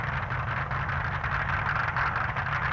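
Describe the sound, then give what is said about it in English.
A drag racing car engine roars in a loud, steady drone with a deep rumbling low end, sustained without a break, with no voices; Clive Skelton's first burnout, his car running the engine from his funny car. “First burnout there from Clive Skelton.”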